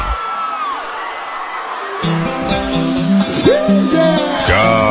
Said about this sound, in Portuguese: Eita, chama. Cadê o grito da galera?